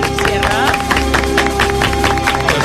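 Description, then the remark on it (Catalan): Loud, dense applause from a crowd, with a rapid wash of claps continuing throughout, over a steady, sustained award music tone playing underneath, marking Ràdio Arenys's Sunday program winning the Premi Ràdio Associació for best program. “Mira, música de premis, home, un aplaudiment.”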